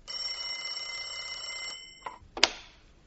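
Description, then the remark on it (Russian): A telephone rings in an office with a bright, metallic bell tone for under two seconds, then stops; two sharp clicks follow as the handset is picked up. No one speaks. “Зазвонил телефон, и Нунан схватил трубку.”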